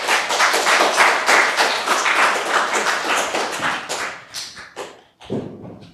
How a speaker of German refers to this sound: Dann aber erstmal vielleicht einen Applaus für die beiden.